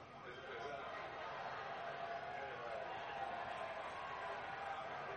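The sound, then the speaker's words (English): A large crowd at a rally roars and cheers continuously, a dense, steady wall of many voices blending together at a loud, unbroken level for the whole stretch. “I want you to listen to the crowd.”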